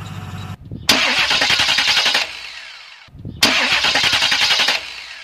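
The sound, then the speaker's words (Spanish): An engine roars up twice in abrupt, rough bursts, each with a rapid pulsing rattle, then fades to a low hum before surging again. It vibrates heavily because the flywheel at the back or the damper at the front is unbalanced or bent. No one speaks. “si sus elementos extremos como el volante de inercia en la parte de atrás o el damper en la parte de adelante están desbalanceados”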